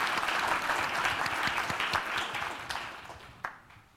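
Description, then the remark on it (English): An audience at a technical conference session applauds, many hands clapping in a dense, steady patter that tapers off slightly toward the end, with one sharper clap standing out near the finish. “Please, everybody, give them a hands of applause.”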